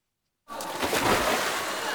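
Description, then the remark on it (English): After a brief silence, splashing and sloshing of cold water starts and continues steadily at a moderate level, with a busy, churning texture and no clear individual splashes. “Oh, this water is cold.”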